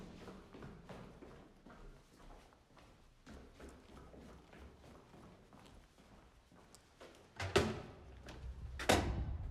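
Steady, evenly paced footsteps tap along as someone heads out the door, then two louder, sharper thuds near the end, like a door being opened and shut.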